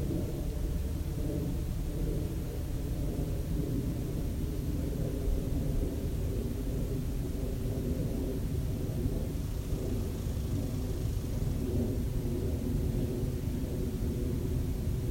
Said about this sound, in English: Note the ubiquitous human noise of the airplane.